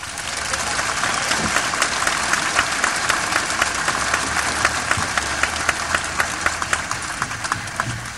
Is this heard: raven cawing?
no